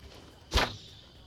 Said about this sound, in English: Oh, I'm supposed to shoot it with my arrow.